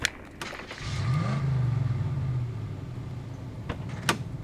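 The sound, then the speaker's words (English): A heavy truck engine rumbles as the truck is driven over to a shipping door, its low drone swelling and then easing off over a couple of seconds, with a few sharp metallic clunks before and after. “drive the truck over.”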